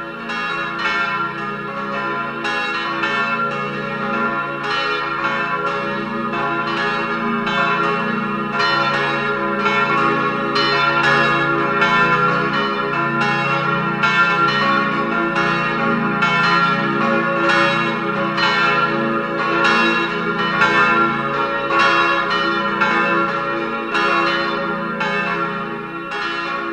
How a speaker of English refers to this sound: To the sound of the bells of the church of Muotatal, we end this program of Christmas carols in the languages of Switzerland.